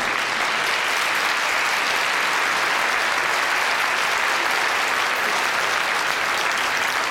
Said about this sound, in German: Aber jetzt kommt erstmal dein Applaus.